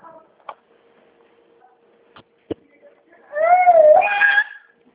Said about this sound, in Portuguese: Você não liga não, porque isso aqui é uma criança aqui gritando aqui perto de mim, viu?